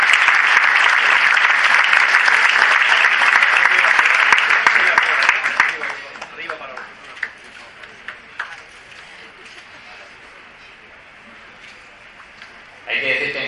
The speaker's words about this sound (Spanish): Un fuerte aplauso.